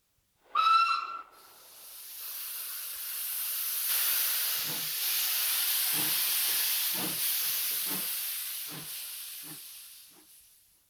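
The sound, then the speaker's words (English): A steam train gives a short, loud whistle blast, followed by a long, steady roar of hissing steam with rhythmic low chuffs pulsing underneath. No one speaks. “Train.”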